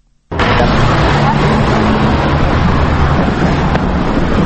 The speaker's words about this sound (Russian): Свет заливает всю улицу имени Дмитрия Гулия, по которой мчится транспорт, главным образом автобусы и маршрутки.